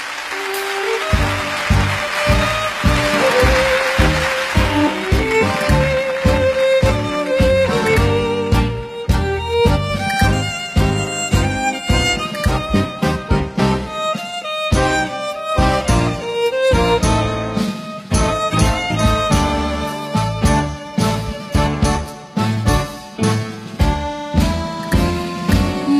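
A Vietnamese song's instrumental opening plays loudly and continuously, with a steady rhythmic beat under bright melodic lines and sustained tones, and no singing or talking yet.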